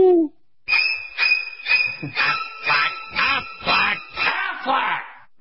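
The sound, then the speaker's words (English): A bird flu alert jingle effect: a steady high electronic tone with about nine rhythmic, squawking bird calls pulsing over it. After a brief low note, it plays loud for about five seconds. “That was the bird flu alert.”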